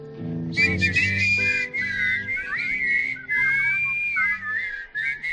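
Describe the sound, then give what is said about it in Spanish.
A bright, catchy whistled advertising jingle for a car repair workshop carries a bouncy melody over a light musical backing, the whistle up front and steady for the whole few seconds. “Qué pegadiza este silbido, ¿verdad?”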